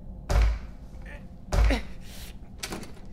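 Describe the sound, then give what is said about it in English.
A stuck door is shoved hard twice, each push ending in a loud wooden thud about a second apart, followed by a softer rattling knock as it fails to give. “Maybe if you help me with the door.”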